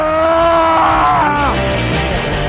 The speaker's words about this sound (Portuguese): Eu quero que eles ouçam o grito da sua masculinidade.